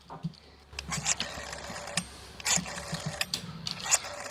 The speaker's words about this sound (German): Also über dieses grüne Telefon müssen wir auf jeden Fall nochmal reden. Das dauert ja länger zu wählen, als mit ihm zu sprechen.